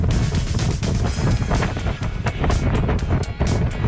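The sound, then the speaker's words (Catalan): Strong wind roars continuously during a wind alert in Catalonia, with deep rumbling buffeting and sharp gusty bursts throughout, loud, with no voices. “És el vent que ha sonat a les últimes hores, tot i que avui no està previst enviar avisos als mòbils.”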